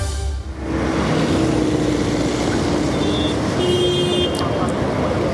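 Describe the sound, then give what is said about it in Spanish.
Steady, loud road traffic rumble from a traffic jam, with idling engines and a constant low drone, a few faint horn toots sounding over the dense background of cars and trucks. “Va de camino al trabajo en coche. Y a pesar de que ha salido con antelación, una vez más, le ha pillado el atasco.”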